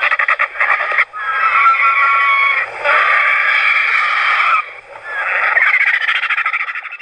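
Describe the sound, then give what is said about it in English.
Griffon vultures give loud, harsh rasping calls, a grating, croaking chorus that runs in long bursts with a couple of brief pauses, with no talking. “you have on your telephone some recordings of the griffon vulture”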